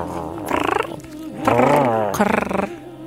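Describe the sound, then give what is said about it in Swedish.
A person imitates a cat with their voice, making three rumbling, purr-like bursts with a rolling, fluttering texture, each about half a second long, fairly loud with brief pauses between. “Ja, du låter som, vad heter det, kurrar. Spinner.”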